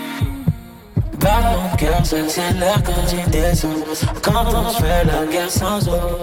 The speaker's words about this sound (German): Und wenn am Ende des Songs dann noch dieses Herzschlagen in den Beat eingebaut wird, dann ist das wirklich, dann ist das so Weltklasse-Niveau.